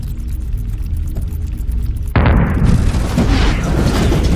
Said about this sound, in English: A large pulse erupts in the distance, jostling the ship.